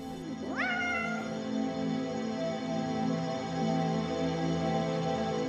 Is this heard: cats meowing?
yes